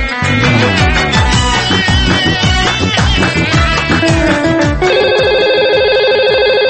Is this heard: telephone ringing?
yes